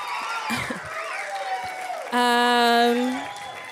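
An audience cheers and murmurs, then one loud sustained whoop rises above the crowd for about a second before fading back into the cheering.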